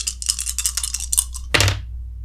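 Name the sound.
dice being rolled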